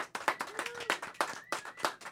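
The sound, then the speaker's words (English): An audience applauds a band of guitar, drums, bass, keyboards and saxophone/flute players with steady, dense clapping that swells in uneven bursts. A faint whistle or two threads through the crowd noise. “Let's hear it for them.”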